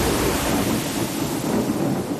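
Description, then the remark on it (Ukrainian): A loud, sustained rumble of thunder rolls on without a break, its deep roar blended with a wash of rain-like hiss across the whole clip, with no voices. “Відгриміло.”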